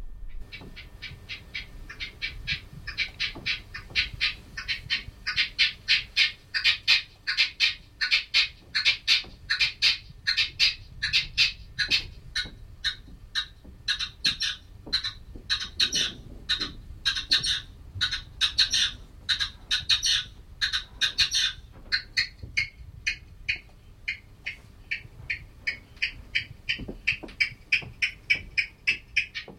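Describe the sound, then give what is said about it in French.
A red-legged partridge calls in a steady, rhythmic chain of harsh, chuffing notes, repeated rapidly for the whole stretch, with a faint low rumble beneath and no talking. “Voilà, par exemple, une perdrix rouge qui m'est apparu comme un rythmicien tout à fait intéressant.”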